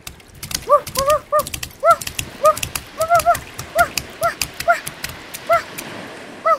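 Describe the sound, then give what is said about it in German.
A dog barks repeatedly in quick, uneven bursts, loud, with sharp clattering or tapping sounds scattered in the background. “das ist ja ein schöner Hund.”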